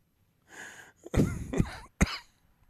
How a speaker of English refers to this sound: Was that a cough? That was a coronavirus cough. Oh, no. Yeah, no, I think I have it.